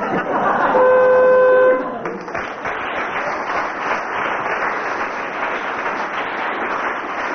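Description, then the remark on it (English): A game show buzzer signalling a contestant's disqualification blares one loud, flat, steady tone for about a second, then an audience breaks into sustained applause that carries on to the end. “It was the buzzer.”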